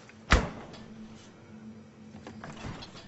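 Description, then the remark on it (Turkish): A woman shuts a door with one sharp thud, followed by a low steady hum and a softer knock a couple of seconds later; no one speaks. “Zehra yoğurttan ağzına bir kaşık alıp kapattı kapıyı.”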